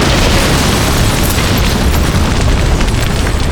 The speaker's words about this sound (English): The tank had run into a wall and appeared still mostly intact. Dust swirled within the room, but the Cuban saw that the dome was missing from the vehicle. The grenades had blasted it to bits